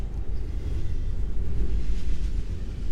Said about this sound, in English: You think you can hear the distant sound of rails rumbling. And soon you see a pair of headlights pop over the hill. You know, that's your train.